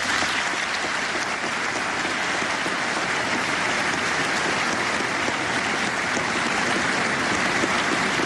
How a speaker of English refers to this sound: And it's met with a round of applause, a bipartisan round of applause, mind you.